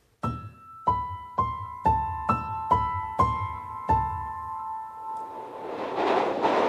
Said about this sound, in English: The next station is Brixton, where this train terminates. All change, please. Change.